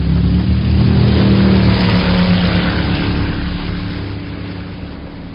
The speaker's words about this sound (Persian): عجب قایقیه. آره، یه چیزی میخواستم که سری باشه.